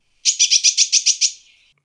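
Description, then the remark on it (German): A blue tit calls with a quick, bright burst of about eight high scolding notes in steady rhythm, clear, trailing off into a brief faint buzz with no voices. “Blaumeisen sind durch ihre auffällige Farbe sehr gut von anderen Vögeln und auch von anderen Meisenarten zu unterscheiden.”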